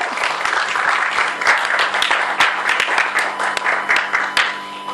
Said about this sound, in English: Let's clap for him.